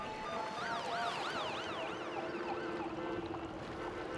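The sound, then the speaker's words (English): An ambulance siren yelps in quick, repeating rising and falling sweeps, steady and fairly prominent over a constant wash of background noise, with no one speaking. “Soon an ambulance arrives, but the medics are unable to stop the bleeding.”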